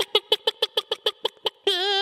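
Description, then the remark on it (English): A human voice imitates a chicken: about ten quick, evenly spaced clucks, then a longer wavering squawk held at the end. Fairly loud, with no other sounds. “I've heard of a wolf in sheep's clothing, but a chicken in wolf's clothing?”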